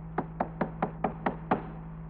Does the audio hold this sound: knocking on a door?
yes